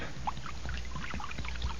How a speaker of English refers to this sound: Well, I done found a jug of acid here. Now I'm gonna start pouring it now.